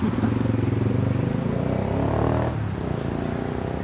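Dense city traffic at a busy, congested intersection where cars and buses wait at traffic lights: steady, loud rumble of idling and accelerating engines, with one vehicle revving and pulling past near the middle. No voices.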